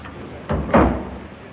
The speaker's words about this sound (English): I don't think that was it. No, sounded more like a door closing.